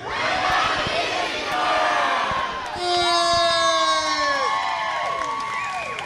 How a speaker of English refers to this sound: We are so happy to have you guys here for Kids Kids 2008. And on three, everybody yell out, we're going to Disney World. One, two, three.